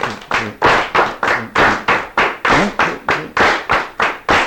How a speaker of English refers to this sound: So if you'll turn around and look at that, first of all, we'll all clap the top line, accenting the first of every three. Now you just join in with me when you're ready.